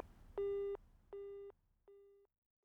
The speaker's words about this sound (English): Oh no, her phone's busy.